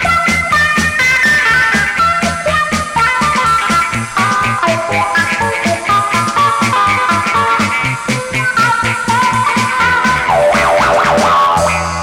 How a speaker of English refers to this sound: By rocking the foot back and forth, we get the wah-wah effect. The same applies for chords. The wah-wah pedal lets you go from mellow rhythm to sharp lead. Quickly, and all without dropping a beat. Now let's listen to the wah-wah pedal in action.